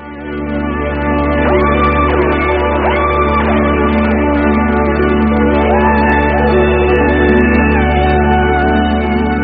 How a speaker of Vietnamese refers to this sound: Những tiếng reo hò của lũ cán bộ ngoài sân như nhắc nhở tôi đừng mơ hồ nữa.